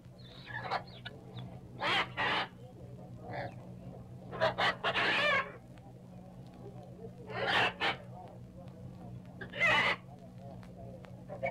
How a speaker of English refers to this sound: Over here's a cage of South American parrots.